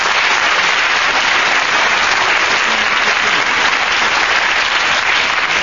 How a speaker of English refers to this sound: they applauded when the whistle went